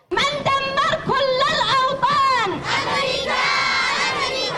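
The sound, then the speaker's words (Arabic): A large crowd of Yemeni women chants protest slogans in loud, rhythmic unison, voices high and rising together in repeated shouted phrases, at a protest in the Libyan quarter of Sanaa, Yemen, against Saudi-American attacks, chanting that America kills Yemenis and is the head of evil. “واستنكارا لمجازر العدوان السعودي الأمريكي وجرائمه بحق اليمنيين المدنيين الآمنين، خرجت بها نساء اليمن في العاصمة صنعاء في الحي الليبي تحديدا الذي شهد جريمة بشعة أدت إلى سقوط العديد من الضحايا وسط هتافات معبرة عن قتل أمريكا لليمنيين واعتبارها رأس الشر.”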